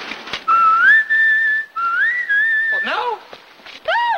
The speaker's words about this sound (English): Well, whistle when you're ready.